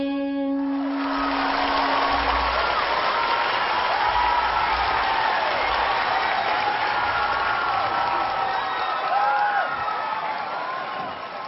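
A large audience breaks into loud, sustained applause with scattered cheers for two singers, the clapping steady and dense throughout as a final sung note of their song fades out at the start.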